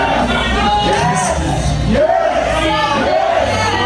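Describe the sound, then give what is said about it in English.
A large, loud crowd of fans cheers and chants "yes" in unison, urging a kiss, with repeated swelling shouts rising over a constant roar that fills the whole clip. “Yeah, the fans are crowning and chanting yes.”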